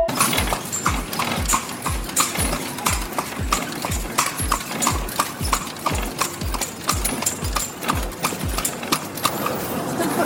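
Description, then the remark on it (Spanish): Steady, rhythmic clip-clop of horse hooves pulling a calandria, a horse-drawn carriage being ridden, sharp knocks repeating about twice a second, continuing evenly throughout with no one speaking. “Eso es una calandria.”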